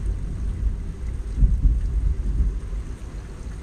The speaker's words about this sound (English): It's raining.